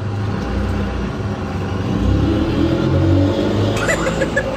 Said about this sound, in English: Did you jump on the back of a lorry while she was filming that?